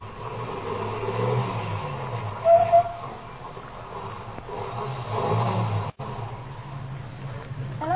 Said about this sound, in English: I pulled up and stopped. Ahead, the car that passed me slowed down and it also stopped. Then turned around and came back toward me.